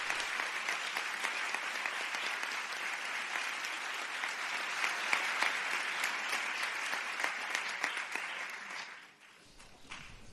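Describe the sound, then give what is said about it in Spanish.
A crowd at a university doctoral graduation ceremony applauds the new doctors of the doctoral programme in Sport and Health, a dense and even wash of clapping that holds for about nine seconds before thinning out and fading to a few scattered claps. “El aplauso para ellos.”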